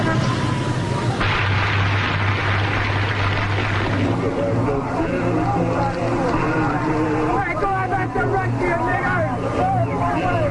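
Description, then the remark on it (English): A group of young boys shout and yell loudly together at people stopped in their cars, their overlapping voices rising above a steady low rumble of idling engines and the general crowd noise of hundreds of people at a singer's concert. “There's a group of young boys here yelling at the people stopped in their cars.”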